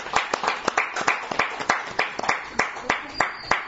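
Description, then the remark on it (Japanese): A group of people applauding together to celebrate a birth, a steady stream of sharp hand claps overlapping at a lively pace, fairly loud, with no one speaking over it. “母子とも元気ということですので、皆さん盛大な拍手でお祝い。”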